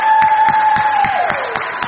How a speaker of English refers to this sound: Right, everybody, let's give a cheer for Peter. He's praying. Woo!